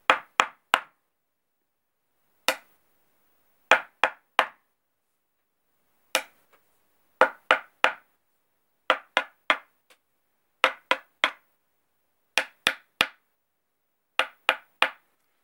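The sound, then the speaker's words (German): Sharp knocks rap out a rhythmic pattern, mostly in quick groups of three with an occasional single knock, separated by brief silences. No music or voices accompany them. The knocking renders a kind of wake-up call from near the end of the third movement of a musical piece. “Allerdings gibt es gegen Ende eine Art Weckruf, den man klopfen kann.”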